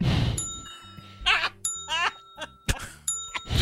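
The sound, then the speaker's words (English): A bright bell dings about three times, its ringing tones lingering, mixed with warbling, clattering sound effects and low thumps in between. “Oh, we broke the bell.”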